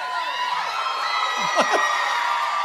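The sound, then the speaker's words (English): A crowd gives its biggest applause yet to a contestant, cheering loudly and continuously, with whoops and rising shouts standing out from the dense roar of an audience, the noise holding steady throughout. “Yeah, the biggest applause yet.”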